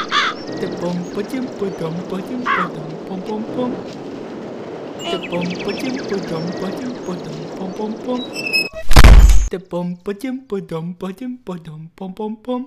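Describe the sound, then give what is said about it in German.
A raven caws a couple of harsh times over a busy, murmuring background, then a loud thump cuts in and people begin talking. “Ui, ein Rabe.”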